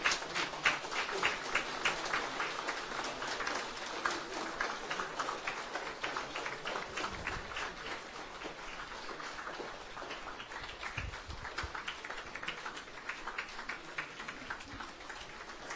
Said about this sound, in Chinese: 掌声不断，谢谢，是我们的荣幸